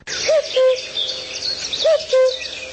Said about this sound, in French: Le chant du coucou gris qui nous est tous familier et qui est célébré dans de nombreuses comptines et chansons populaires aussi bien en France qu'en République tchèque risque de se faire de plus en plus rare.